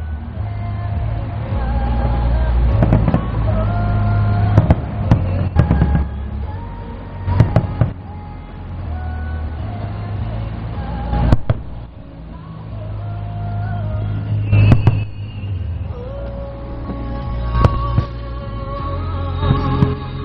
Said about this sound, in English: I don't know if you can hear the fireworks or not, but they're going on in the background up there. It's pretty cool.